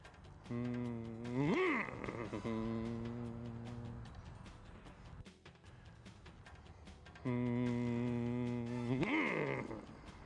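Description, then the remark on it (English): A voice hums a steady low tone that jumps sharply up in pitch for a moment, then settles back, the way a baseball hitter with tension in his swing would sound, raising the hum just before the point of contact. The pattern happens twice, with a quieter stretch of background noise between the two hums. “just before the point of contact, they would raise that voice up a pitch because there's a lot of tension in their swing”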